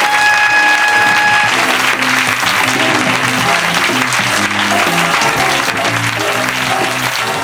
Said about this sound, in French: Vous pouvez l'applaudir après le dictionnaire.